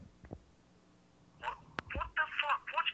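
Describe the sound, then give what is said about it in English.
A telephone call is being dialed during a live broadcast: a few sharp clicks and taps, then a quick run of short, bright tones, with some muffled voice-like sound mixed in. “Are you seriously on the phone while we're live?”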